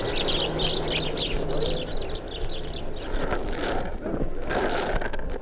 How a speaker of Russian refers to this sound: Ты кишмя кишат птицами. Воробьи ошалели от тепла, что творится. Вы только послушайте.